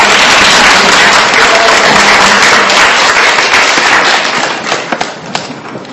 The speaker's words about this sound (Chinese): 那我们今天呢再请热烈掌声